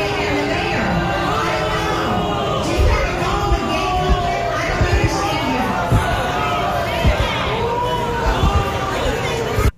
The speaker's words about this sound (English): So what's important here is that you can hear the crowd not liking it, which is a mix of her tech supporters and Cruz supporters. I don't hear anyone clapping and saying yes to that.